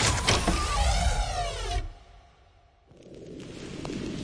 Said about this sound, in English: The former Sith acolyte rolled her eyes, knocked an arrow, and fired it into the control panel. The panel sparked and sizzled as the door slid open.